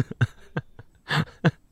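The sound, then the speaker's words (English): People slap their own chests and breasts with their hands in a quick, uneven series of about six soft, fleshy thumps, with no talking. “If you're just listening on audio, we're slapping our titties.”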